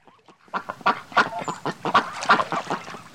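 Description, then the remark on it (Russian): Geese honk in a rapid, overlapping chatter of calls, fairly loud, with no voices over them. “Прибежал к реке. Видит, гуси пасутся.”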